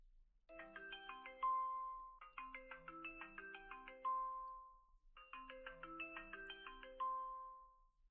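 A melodic electronic video call ringtone plays three times in repeating bursts, each a quick cascade of bright chime-like tones ending on a held note, clear with no talking.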